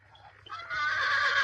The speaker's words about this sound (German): Und dann noch ein anderes Geräusch, was mich irritiert hat, ist, wenn das Pony immer mal durchdreht, dann hört man so ein Wiehern wie von einem richtigen Pferd.